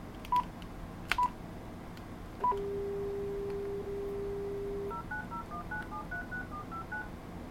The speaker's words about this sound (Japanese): この状態でもう一度電話をかけてみます。